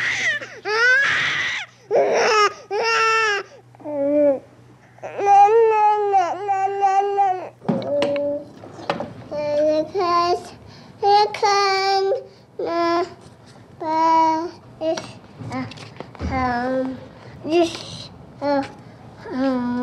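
Sped-up recording by radio producer Tony Schwartz of his niece from birth to age 12, compressed into exactly 2 minutes 12 seconds: a baby crying and babbling, high-pitched wails and chirpy vocal bursts in quick, choppy succession with brief gaps, steady low hum underneath.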